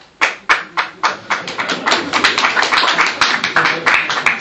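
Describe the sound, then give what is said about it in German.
An audience breaks into applause: a few separate claps at first, quickly swelling into dense, steady clapping from many hands that carries on loudly without any talking. “Das ist, da brauchen Sie nicht, damit Sie hier klatschen, da müssen Sie dem lieben Gott dankbar sein, dass er die Welt so gemacht hat.”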